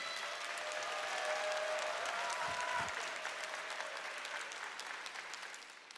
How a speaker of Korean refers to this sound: 예배의 기쁨, 영광의 기쁨 우리 귀한 목사님을 박수로, 큰 박수로 모시겠습니다.